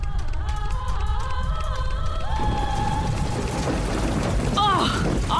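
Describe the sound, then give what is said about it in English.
Steady, dense hiss of the Petrichorus, a magic rain, pouring through a workshop's opened roof swells in partway through and continues loudly, replacing a sustained tonal hum heard at the start, with a few brief chirping sounds near the end. “The Petrichorus is magic rain, Amaryllis.”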